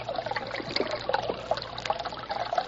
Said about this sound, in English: This is the brook from which the moonshiners get their branch water.